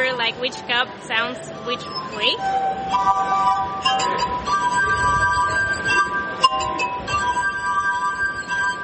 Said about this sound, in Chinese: 他演奏玻璃琴已经50年了。虽然他也演奏其他乐器，可是玻璃琴是他的挚爱。 玻璃杯的音响抓住了我的想象力。